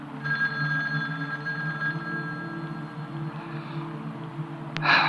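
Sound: landline telephone ringing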